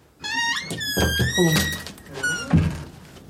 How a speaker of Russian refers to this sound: Что это за шум? Это закрылась дверь кабинета. Это телефон? Нет, это дверь.